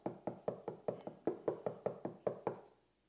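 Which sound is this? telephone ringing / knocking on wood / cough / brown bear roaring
knocking on wood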